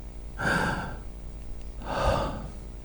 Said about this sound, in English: My breath is getting weaker.